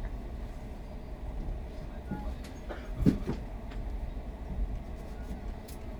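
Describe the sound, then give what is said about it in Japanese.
Steady low rumble of a moving train in Japan, running on schedule about 6 a.m. on 2 January, some three minutes before Ofuna on the way to Yokohama and Tokyo, with a few sharper clacks of wheels over rail joints around the middle and faint muffled voices underneath. “列車時刻通りに運転をしております。”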